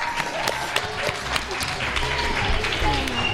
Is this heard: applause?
yes